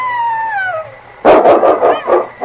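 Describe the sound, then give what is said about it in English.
At night after snow has stopped falling, a wolf's drawn-out howl slides steadily downward in pitch, then gives way to a burst of loud, rapid, rhythmic barking. No one speaks. “What was that, Preston? That was a wolf, and King's going to meet it.”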